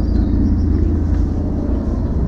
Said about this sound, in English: There goes another aeroplane.